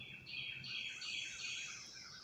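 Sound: birds chirping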